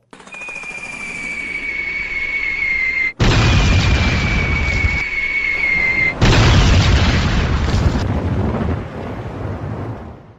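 Heavy, continuous booming and roaring of enemy artillery shells exploding across a base, loud and rumbling in a few abrupt bursts, with a thin high whine running above the din and no voices.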